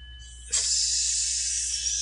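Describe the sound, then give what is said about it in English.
A person makes a steady, sustained hiss like a snake, starting abruptly and holding for over a second, fairly loud with no talking. “Are you a snake? Are you hissing at me?”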